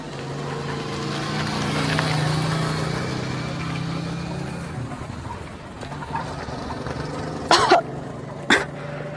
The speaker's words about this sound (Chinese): 这里有一辆摩托车过来了。